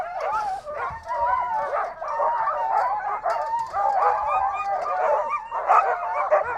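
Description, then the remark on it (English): A pack of excited sled dogs, being lined up for a dog mushing run, barks, yips and whines all at once in a continuous, overlapping chorus, loud, with no pauses for the whole stretch. “So they got these all little-eyed sort of dogs, and they are excited.”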